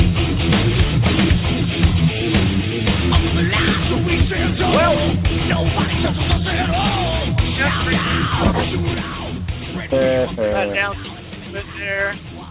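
Heavy metal music plays throughout, with dense distorted guitars and harsh yelled vocals, steady and loud, sounding slightly muffled and thin, then easing off slightly near the end.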